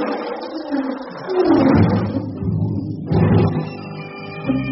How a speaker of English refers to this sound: That lion... Not hurt, Jane. Tarzan killed.